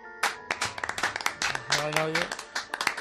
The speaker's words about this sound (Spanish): Antes, en este vestuario, se escuchaban muchos aplausos. Ahora... se siguen escuchando aplausos.